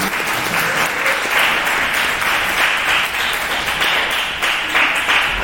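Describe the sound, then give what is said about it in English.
A crowd breaks into steady, sustained applause for a 27th wedding anniversary, started by the speaker's son, many hands clapping at once in a dense, crackling wash that stays loud and even throughout without any voices rising above it. “My son started that clap.”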